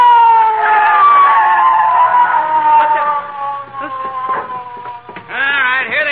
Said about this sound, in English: McGee, I hear a siren. Oh, so do I. It's the police, McGee. It's the police.